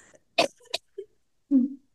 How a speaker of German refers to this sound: oh, jetzt muss ich husten, Entschuldigung.